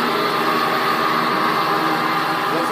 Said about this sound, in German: Das ist jetzt die Säge im Leerlauf. Und jetzt fange ich gleich an zu sägen. Mit Wasser wird es dann betrieben, da wird Wasser eingespritzt, oder? Es wird mit Wasser gekühlt.